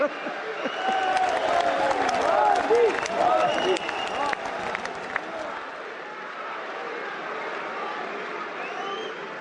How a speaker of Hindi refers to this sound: ना, मैं करूं तो खूब ताली बजाते हो, आपको करने की बात आए तो उठ जाते हो।